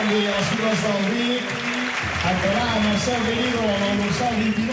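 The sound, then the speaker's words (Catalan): A stadium crowd breaks into sustained applause and cheering for two substituted Vic players, Pius Kerr and Arnau Prat, as they leave the pitch, a dense roar filling the space while a commentator talks over it throughout. “I la ovació que s'enduen tots dos.”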